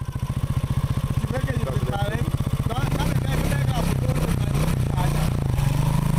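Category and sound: vehicle, motorcycle riding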